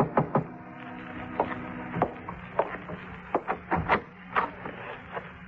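A series of sharp knocks on the door of a room at 7:45, irregularly spaced, some doubled, continuing for several seconds over a faint steady hum with no voices.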